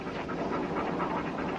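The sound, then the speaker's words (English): A dog pants steadily and rapidly, with quick rhythmic breaths filling the moment without any voices. “We better catch that dog.”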